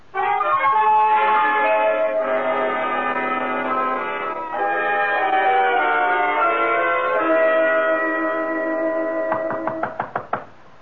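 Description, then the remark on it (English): Sustained orchestral music plays, then near the end a quick series of about half a dozen sharp, loud knocks at a gate rings out, each striking hard and fading fast. “Who knocks at my gate?”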